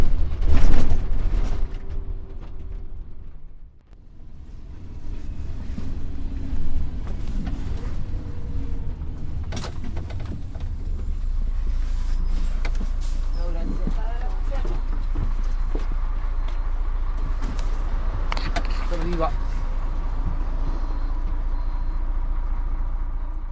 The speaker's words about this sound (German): Und man hat ganz deutlich das Quietschen der italienischen Busse gehört.